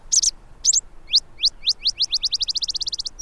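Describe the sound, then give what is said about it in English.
A Botteri's sparrow sings alone in the desert during the late-summer monsoon rains, opening with a few sputtering high notes, then a run of upward-sweeping chips that speeds into a rapid, accelerating trill. “Bonnerized sparrows add their distinctive sputters and trills.”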